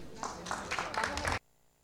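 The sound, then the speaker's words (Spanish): An audience applauds to welcome the honoree of a distinction as she comes to speak, with steady, dense clapping mixed with a murmur of voices, then the sound cuts off abruptly into near silence. “a quien recibimos con un fuerte aplauso.”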